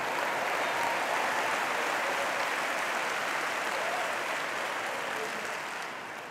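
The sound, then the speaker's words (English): An audience claps in a steady, dense wash of applause that holds strong for several seconds, then gradually tapers off toward the end. No one speaks. “and you ought to give yourself, even if you're not going forward, you ought to give yourself a hand clap that you didn't go back.”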